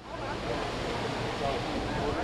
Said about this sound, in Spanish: En el hall del hotel hay una cascada.